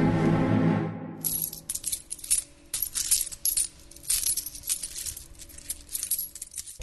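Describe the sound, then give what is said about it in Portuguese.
Silver coins clink and jingle in a steady, busy stream, as if being poured or shaken in a pouch, fairly loud, after a brief low tone at the start; the thirty silver coins paid to Judas Iscariot by the chief priests. “E eles lhe pagaram 30 moedas de prata.”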